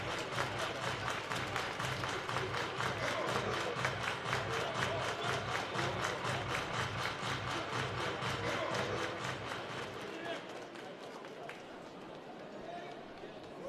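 A big crowd at a baseball game claps in steady unison during a full 3-2 count in the sixth inning, a fast rhythmic beat filling the stadium for about ten seconds before the clapping loosens and fades into a general crowd murmur.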